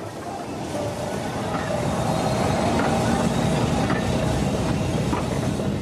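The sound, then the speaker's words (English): A train rolls steadily along the tracks with a loud, continuous rumble, broken by faint rhythmic clacks of the wheels over rail joints. No one speaks. “They can't eat these trains, but they can at least feast their eyes upon them.”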